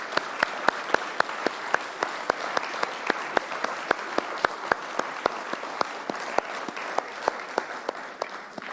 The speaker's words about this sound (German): Ja, einen Applaus und vielen Dank an die Musiker bitte einmal für diese tolle Musik.